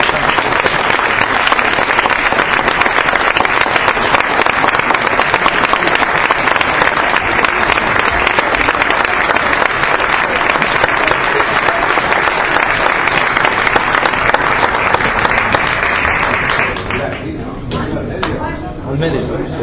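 A crowd applauds loudly and steadily to welcome a speaker, a dense wash of clapping lasting about seventeen seconds before it drops away abruptly into quieter sound.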